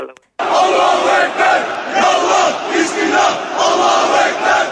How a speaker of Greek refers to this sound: πανηγύριζαν φωνάζοντας συνθήματα μέσα οπαδοί του Ερντογάν μέσα στην Αγία Σοφιά. Για να ακούσουμε το ηχητικό. Νομίζω αυτό που φωνάζουν είναι ο Θεός είναι μεγάλος.